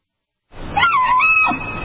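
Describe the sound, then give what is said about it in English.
After a short silence, a woman lets out a high, rising, whistling scream like a bull elk's bugle as her RV sewage tank spews over her camper in elk country, held for about a second before breaking off with a rough, lower tail. “The bull elk's bugle, one of nature's most wondrous sounds.”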